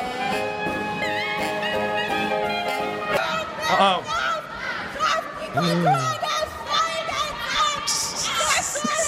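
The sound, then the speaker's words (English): Steady clarinet tones at a jazz concert give way to angry, topless German protesters who rushed the stage, several voices shouting and yelling loudly over the music, chaotic, with a rising high hiss near the end. “here you're going to get to hear angry, topless, yelling Germans and Woody Allen playing clarinet”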